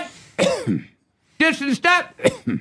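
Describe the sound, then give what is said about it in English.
A single rough throat-clearing cough, then a short pause and a few brief voiced vocal sounds from the same person. “Are you catching a cold? No, but it says cough, and you know I'm highly suggestible.”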